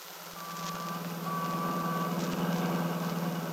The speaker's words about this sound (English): Yes. Seems so noisy. All the people, the traffic.